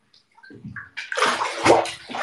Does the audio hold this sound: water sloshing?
yes